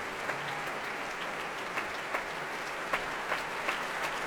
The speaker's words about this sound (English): Robin Holloway on his own, on the podium, bowing to the audience and applauding the most modest of men